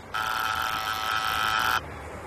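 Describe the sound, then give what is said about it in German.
A doorbell buzzer sounds in one steady, harsh electric buzz lasting under two seconds, then cuts off abruptly, leaving a quiet background hum. “Guck, das Klingelschild.”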